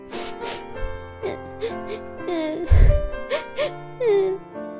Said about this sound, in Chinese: 不过，如果你仔细听听，就会发现厨房的一角，传来断断续续的哭声。